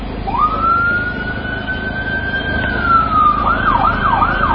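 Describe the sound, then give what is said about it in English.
An ambulance siren gives one long, slowly rising wail, then switches to a rapid warbling yelp, loud over a steady rumble of road noise, as ambulances carry the first rescued boys from the Thailand cave to a hospital. “Ambulances transporting the first rescued boys from the Thailand cave to a hospital.”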